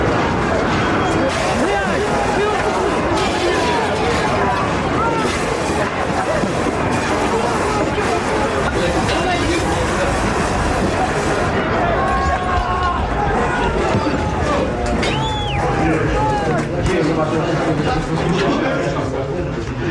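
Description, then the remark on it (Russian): A large crowd of protesters roars and shouts slogans together in a loud, continuous din, many voices overlapping with rising yells throughout, while people throw stones and the crowd surrounds soldiers. “Люди выкрикивают лозунги. Бросают камни. Понял, я слышу крики.”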